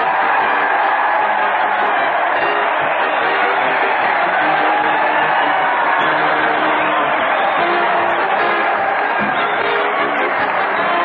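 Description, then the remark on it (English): A large crowd cheers and roars continuously for comedian Fred Allen and Fortin marching down from Maine, a loud, dense wash of voices, whoops and clapping that holds steady for the whole stretch with a muffled, old-broadcast tone. “Crowds cheering Fred Allen and Fortin as they march down from Maine, scattering fishing tackle and wet bathing suits on all sides.”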